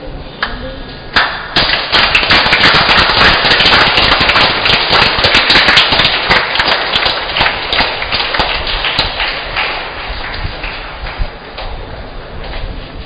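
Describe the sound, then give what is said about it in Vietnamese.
A large parish audience at a Catholic Mass with the bishop applauds steadily in celebration of a special occasion, a dense roar of many hands clapping that swells quickly, holds loud for several seconds, then gradually thins and fades toward the end. “Một lần nữa xin cộng đoàn cho chàng vỗ tay chúc mừng ngày vui trọng đại hôm nay.”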